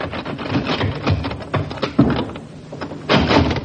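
A sergeant tries the handle of the door to Colonel Reed's place of business in a small village: the handle rattles and clicks several times, then the unlocked door swings open with a scrape. No voices, just the clattering mechanism and a final push.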